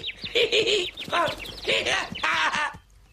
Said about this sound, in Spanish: ¡Un pájaro!